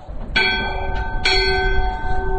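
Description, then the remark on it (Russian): A large Vyatka-made bell rings out twice, each strike at a bright metallic attack with long, shimmering overtones that keep ringing and overlap, standing out clearly over a low rumble of background noise. “Или вятский колокол.”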